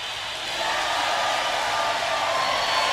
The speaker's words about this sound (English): Yes. That's just a round of applause today. We just applausing all over today, baby.